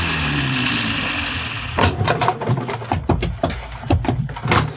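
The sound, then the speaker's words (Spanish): A police patrol car's engine hums steadily, then gives way to a run of crunching, thumping bursts as the car rolls in and stops some way from a large house, switching off its lights. “mira cómo el auto policíaco se detiene a prudente distancia de la casona, apagando las luces.”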